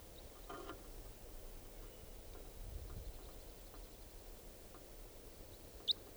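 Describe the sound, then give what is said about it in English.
A single short, high-pitched chirp from a wild bird, a juvenile or adult female, rings out near the end against a quiet outdoor background with faint low rumble at about 7 o'clock; nobody speaks. “It's about 7 o'clock, and there's a wild type 4 bird here.”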